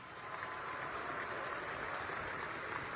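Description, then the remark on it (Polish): Sustained audience applause for the Kobiety Konfederacji on stage, a dense steady wash of many hands clapping at an even loudness for the full three seconds, with no voices standing out. “Jeszcze raz wielkie brawa, Kobiety Konfederacji!”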